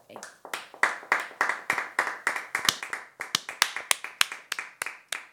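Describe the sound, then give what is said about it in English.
Thin, half-hearted applause from a small group celebrating a member's 90 days of sobriety: a steady patter of individual claps over about five seconds, never building to a full ovation, fairly quiet. “Are you fucking kidding me with that lackluster applause?”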